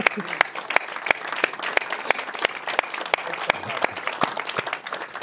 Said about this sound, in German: Und sag uns, wenn das dein Fuchs ist, dann ist es der lautste Applaus, der für dich einsetzt.